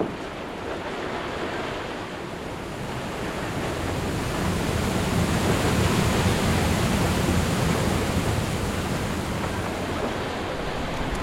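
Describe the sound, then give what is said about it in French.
A steady, loud roar of rushing and splashing water from the water jets of a sugar beet washing station at a sugar factory, where the beets are washed free of soil. The sound is broad and hissing, swells slightly midway and continues unbroken, with no voices. “Donc nous sommes ici devant le lavoir.”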